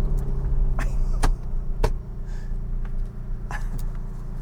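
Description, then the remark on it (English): A car engine runs with a steady, loud low drone while driving, punctuated by a few sharp clicks and thumps from inside the vehicle. “This car just drives me crazy.”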